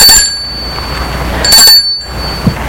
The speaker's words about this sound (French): L'homme va arrêter sa voiture devant une maison qui se trouve au boulevard des Belges. Il sort de voiture. Et sonne au portail.